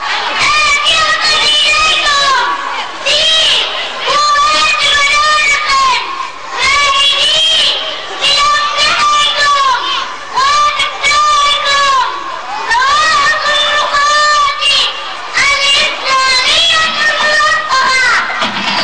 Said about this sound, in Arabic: هذه الكلمات استدعت التصفيق الحار من جمهور الأطفال المحتشد، والذي بدا متناغما مع ما سمعه وحفظه قبل هذا العرض.